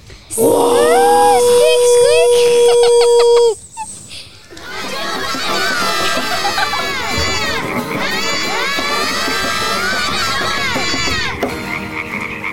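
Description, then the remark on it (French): Several children's voices imitate animal cries all at once after counting to three, a loud chaotic mix of croaks, barks, squeals and wavering high calls, after an opening stretch of steady tones and rhythmic chirps. “On compte jusqu'à 3 et chacun fait son cri d'animaux, ok ?”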